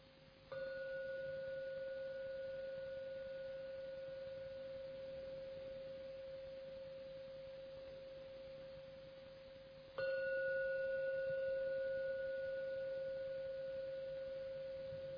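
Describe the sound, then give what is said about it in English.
A meditation gong is struck twice, about ten seconds apart. Each strike blooms into a steady, humming tone with a bright overtone that lingers and slowly fades, with no voices. “Now I'm going to ring the gong 3 times. Please listen as usual to every sound from the gong.”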